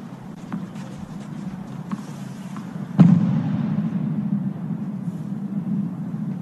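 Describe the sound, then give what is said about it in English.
A single sharp, loud boom from a fighter jet flying overhead during a tennis match in Paris cuts through a steady low outdoor rumble, leaving a heavier rolling roar that lingers for several seconds afterward. “The tournament says that was a fighter jet flying above, not an explosion.”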